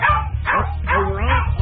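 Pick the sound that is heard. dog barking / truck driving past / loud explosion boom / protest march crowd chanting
dog barking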